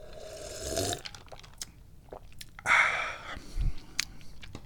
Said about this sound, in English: Maybe take another sip of tea. That's good.